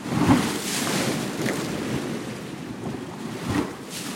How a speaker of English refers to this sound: Every night my family falls asleep to the sound of waves breaking on the shore. When we hear the water gather, lift, slosh, and churn, it's as if our beds are turning into beaches.